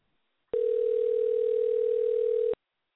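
A single steady electronic telephone tone sounds loud for about two seconds, then stops, like a ringback tone heard while an outgoing call waits to be answered.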